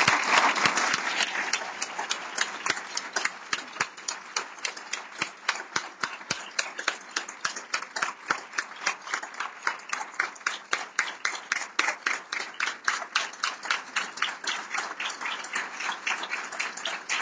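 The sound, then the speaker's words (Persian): A crowd gives warm applause to welcome a leader, breaking into loud, dense applause that soon settles into steady, rhythmic clapping in unison, keeping an even beat for over fifteen seconds with no voices over it. “ازتون میخوام با تشویقای گرمتون همراهی کنین”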